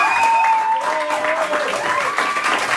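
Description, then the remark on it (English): Sustained applause from a large crowd in Israel as Hamas released six more hostages, dense and steady, with scattered cheers and voices rising over the clapping throughout. “Applause as Hamas released six more hostages today.”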